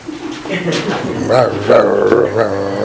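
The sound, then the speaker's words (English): A human voice mimics the grumbling mumble of a dog named Dandy, made whenever someone he didn't like came to the door: a continuous run of low, wavering whines and murmurs that rise and fall in pitch for a few seconds. “Whenever somebody came to the door that he didn't like, he would start mumbling.”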